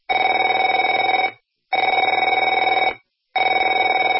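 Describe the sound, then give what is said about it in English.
A telephone rings in repeated bursts of buzzy, trilling bell tone, each lasting over a second with short silent gaps between; the third ring is cut off. No one speaks. “Afraid to answer it?”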